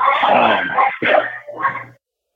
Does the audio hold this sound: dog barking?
yes